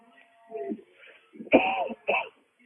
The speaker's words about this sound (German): Entschuldigung, dass ihr den ein oder anderen Huster nun mitbekommt, aber die Luft wird deutlich trockener.